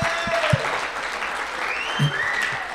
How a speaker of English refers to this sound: You know, you deserve a round of applause, a massive round of applause.